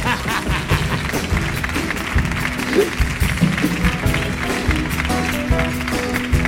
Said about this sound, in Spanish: ¡Fuerte el aplauso para la criatura!